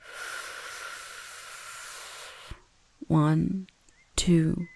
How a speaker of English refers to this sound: Slow, steady breathing. 1, 2, 3. Inhale.